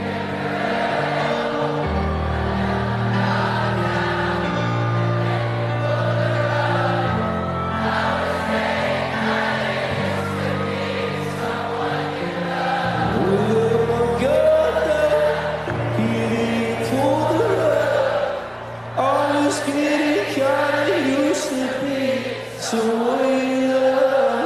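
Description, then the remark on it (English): A huge crowd at the Glastonbury festival sings along in unison over a band, voices blending into a broad, sustained chorus that swells and holds for the whole stretch, loud and continuous with no individual talking. “and then the crowd normally sing, but to have Glastonbury, which is huge, sing along because he can't, because he's having one of these forms of seizures.”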